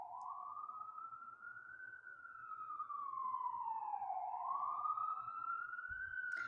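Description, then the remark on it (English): A loud emergency siren wails continuously, its pitch sweeping slowly up and down as the vehicle passes by, with low traffic rumble underneath and no talking. “And let me just take a moment to allow these sirens to pass by.”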